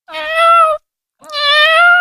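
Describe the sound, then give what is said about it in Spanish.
A frightened kitten meows twice, each call long, loud and drawn out with a short pause between them, with no other sounds around it. “¡Anda! ¡Si es un gato!”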